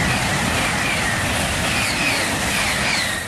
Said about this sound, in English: Recordings of high-speed trains in France and Germany only serve to raise the residents' anxiety.